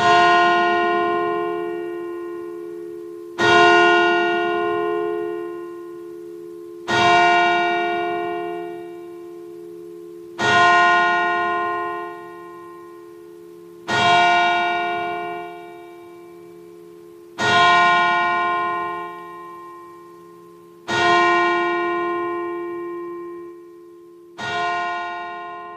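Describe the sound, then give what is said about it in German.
A single large church bell tolls eight times at a slow, even pace, each loud strike ringing out and humming on before the next. No voices are present. “Dann gehe ich auch mal in eine ganz andere Richtung und nehme mal das Glockenläuten.”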